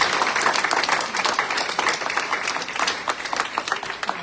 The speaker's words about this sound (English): We honour her. We give her a round of applause. Give God a round of applause.